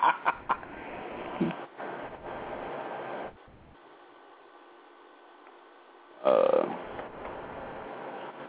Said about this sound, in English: It's a red-breasted blackbird.